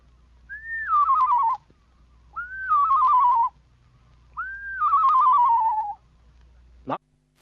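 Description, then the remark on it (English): A person whistles three separate phrases in imitation of a screech owl's song, using a la-la whistle on a lower descending scale, each one rising briefly and then sliding down in a quavering, wavering descent. A short sharp click follows at the end. “Make the same whistle on a lower descending scale, and you have the song of the screech owl.”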